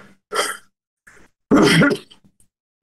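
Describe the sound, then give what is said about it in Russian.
Two abrupt, breathy sneezes about a second apart, the second louder and fuller, with a faint intake of breath between them and no talking. “Значит, чихаю.”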